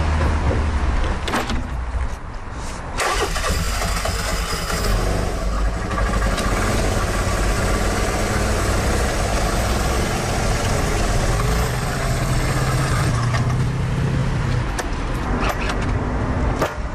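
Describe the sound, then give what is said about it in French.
A scooter engine idles, a steady, loud mechanical rumble with a constant hum that holds for the whole stretch, with no voices over it. “En route? En scooter? Oui.”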